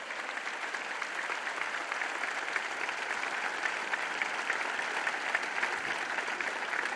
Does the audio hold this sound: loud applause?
yes